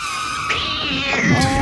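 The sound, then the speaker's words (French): A cat lets out a loud, drawn-out yowling screech, its pitch wavering and rising into a strained cry before breaking off, with no talking. “La première, c'est que Molière a eu l'élémentaire élégance de mourir en alexandrin, pas comme mon chat qui nous a tristement quitté au son d'un.”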